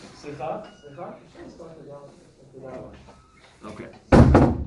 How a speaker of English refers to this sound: So guys, when you leave, just try to close the door.